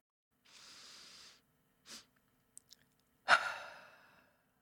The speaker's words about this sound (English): So, take a big breath in through your nose as far as you can, sniff in an extra breath, and then sigh a big breath out through your mouth. Why not give it a go now if you'd like to, like this.